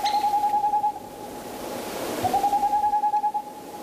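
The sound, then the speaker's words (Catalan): A Tengmalm's owl gives two quick runs of soft, evenly pitched hoots, each lasting about a second, separated by a brief pause, over a steady rushing background hiss. “Se tracta de? Era gaueca pirinenca i un rapinyaire nocturn.”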